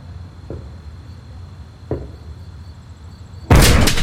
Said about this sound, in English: Is that you, Aunt Harriet? Aunt Harriet, if it's you, knock 3 times.